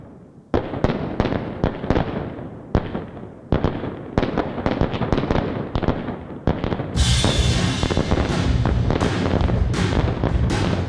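Fireworks noise at the opening of a rock song: crackles and pops in rapid, dense bursts, loud and irregular, for several seconds before a steady roaring wash of noise sets in beneath continuing bangs.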